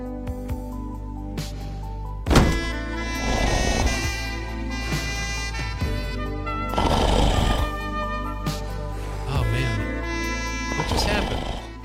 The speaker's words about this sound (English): At that time, I was talking through one of my own snores. That's a talent I have.